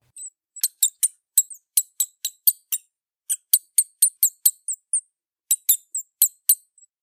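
A bat gives rapid, high-pitched squeaks in quick bursts, sharp chirps repeating in three clustered runs with brief pauses between them, with no voices.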